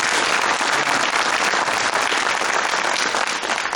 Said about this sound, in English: That's absolutely amazing. So give everybody a big round of applause for everything that they did.